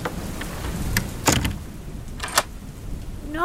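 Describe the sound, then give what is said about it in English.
Steady rain hisses over a low, constant rumble of a storm, broken by a couple of sharp, crackling bursts like thunder. No voices are heard. “Then, as for the rest of you, you can wait out this storm from inside the keeper's cottage.”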